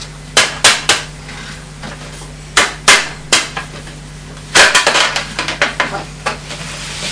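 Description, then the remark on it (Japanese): Light, sharp taps in small bursts of two or three, with a quicker flurry of taps near the end, as a puzzle piece is tapped to fit it into place. Steady low hum underneath, no talking. “よし、トントンってやれば入る。”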